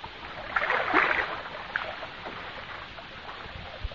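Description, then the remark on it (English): A small pedal boat is pedaled through water in the evening, churning with a steady splashing and lapping, swelling to a louder slosh early on before settling into a softer wash. No one speaks. “Or, on the other hand, many people nowadays find considerable enjoyment in taking out one of those little pedal boats for the afternoon.”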